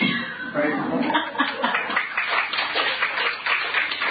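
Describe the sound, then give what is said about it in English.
A crowd claps in a dense, steady patter for about four seconds, mixed with murmuring voices and a bit of laughter. “See, y'all feel like clapping now?”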